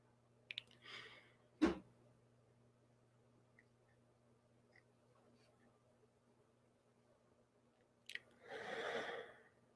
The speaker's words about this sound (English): So that's about 8 in, 4 out, and see if you can play with it with your tortoise breathing. See what happens.